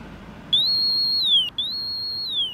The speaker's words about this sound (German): Ein Reh sieht nicht nur besser als ein Mensch, es hört auch hohe Töne sehr gut und soll, so die Idee dieser akustischen Warngeräte, beim Ton verharren. Das Gerät kann man umschalten von 4 kHz auf 8 kHz.